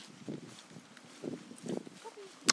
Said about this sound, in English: And as you can hear underfoot, it's a bit on the squelchy side.